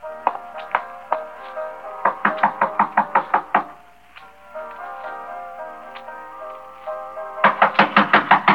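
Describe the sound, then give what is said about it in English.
Loud knocking on the door of a woman's room in quick bursts of rapid raps, pausing between volleys, with a brief quieter stretch before a final fast flurry of knocks. “Then I walked up to her room and knocked on the door.”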